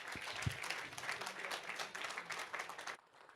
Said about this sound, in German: Und dann würde ich sagen, ich wünsche euch viel Spaß bei dem Vortrag und viel Spaß dir. Einen großen Applaus und los geht's.